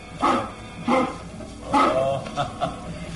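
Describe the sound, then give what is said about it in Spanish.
A large mastiff dog named Lucifer barks nervously, five loud, deep barks spaced unevenly over a few seconds, with no one speaking. “El enorme perro mastín ladra nervioso y sus ojos brillan mirando fijamente a Calimán”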